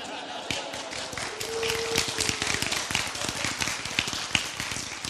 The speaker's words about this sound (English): I'm not sure why you all are applauding.